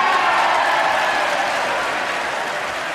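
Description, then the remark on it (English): Sustained, dense applause from lawmakers standing in the U.S. Congress during President Bush's State of the Union address, a steady wash of many hands clapping at once that stays loud throughout and eases only slightly toward the end, with no voices standing out. “And the whole, you know, all the congregation, all the lawmakers stood up and applauded.”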